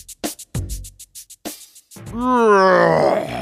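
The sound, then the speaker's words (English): A few quick knocks and thumps, then a long, loud groan that wavers and rises in pitch for over a second as a lion is woken by a shout. “Jerry shouts and wakes Mr. Lion.”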